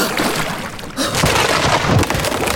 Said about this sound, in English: Well, the storm hath finally broken the ship in half. This is it, chaps. We're descending into our watery grave.